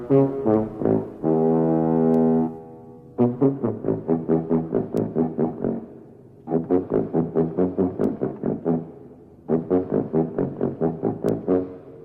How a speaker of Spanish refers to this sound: A mí lo que me parece maravilloso es precisamente la escena, bueno, una de las cosas icónicas de la película es los tonos musicales, hay una conversación musical con la nave y escuchamos. Vamos con ese fragmento.